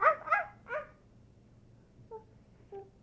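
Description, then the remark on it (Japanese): A dog gives three quick barks in a row, then a couple of softer, fainter yips or whimpers after a pause, with no one talking. “今ワンちゃんが泣いてたね。”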